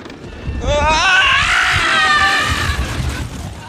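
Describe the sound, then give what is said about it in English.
A newscaster lets out a long, loud, wavering screech lasting a few seconds on the 85-foot drop of a roller coaster at Coney Island, his voice rising and quavering over a rumbling, rushing background. “It is so amazing because it just, this screech, from this, serious newscaster kind of guy or whatever, nothing, not at all that kind of person, of course, but, what could have been this very serious and sort of this automaton of a presence.”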